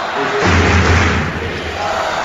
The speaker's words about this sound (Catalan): A veure, crits de Girona, Girona des de la grada de Fontejau.